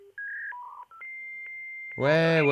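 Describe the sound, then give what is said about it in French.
A computer's dial-up internet modem connecting: a quick run of stepped dialing tones, then a long, steady high-pitched beep, cut off by a loud, buzzy, harmonic-rich burst at the end. “Mais si, souvenez-vous, vous cherchiez les boutons, vous contorsionnez derrière l'ordinateur, tout ça pour vous dire « Ah, ça y est, ça marche, la connexion marche !» Ça ressemble à un truc du genre...”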